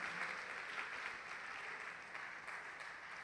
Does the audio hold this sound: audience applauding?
yes